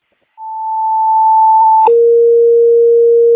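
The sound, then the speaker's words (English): A fire dispatch alert for a Crystal Lake residential fire alarm call on Amy Drive sounds: a loud, steady high tone held for about a second and a half, then a switch to a lower sustained tone. No voices. “341, do you want tones on that?”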